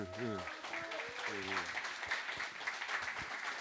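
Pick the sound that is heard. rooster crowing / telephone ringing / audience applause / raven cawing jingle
audience applause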